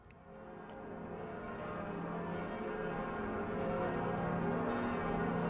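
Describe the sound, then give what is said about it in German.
The ten newly cast bells of Notre-Dame Cathedral in Paris, hung across its two towers, ring together on Ascension Day in a dense, sustained peal, their overlapping tones swelling into a rich, continuous wash that grows slightly louder, with no voices present. “Und das sind jetzt die Glocken von Notre-Dame.”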